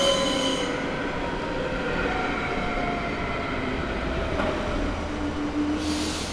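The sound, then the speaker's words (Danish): A train arrives at Borup station on a cold, windy day in early 2006, with a steady, heavy rumble, its wheels and brakes giving off long high squeals as it slows, with no one speaking. “Men på en kold og blæsende dag i de første måneder af 2006 stod en lav og bredskuldret mand af toget på Borup station.”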